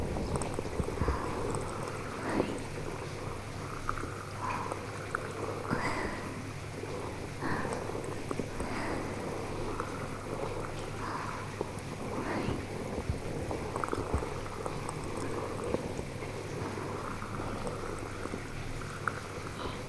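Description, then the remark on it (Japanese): Dense, steady crackling and popping of carbonated foam bubbles during a carbonated foam massage in a jet bath, continuous for the whole stretch, with a low churning water rumble underneath and no voices. “この泡は炭酸泡なんだよ。だから普通の泡よりもプチプチって音が大きいの。”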